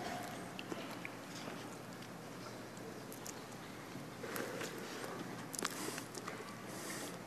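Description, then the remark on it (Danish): Faint, scattered footsteps of several people, newly called general authorities and the young women's general presidency, walking forward to take their seats on the stand, soft, with a steady murmur of room noise and no clear speech. “Vi inviterer nu de nykaldede generalautoriteter og unge pigers hovedpræsidentskab til at komme frem og indtage deres pladser på forhøjningen. It's a long walk.”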